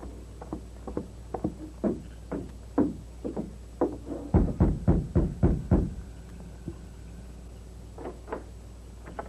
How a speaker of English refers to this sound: Hold it. Steady. I'll rap on the door.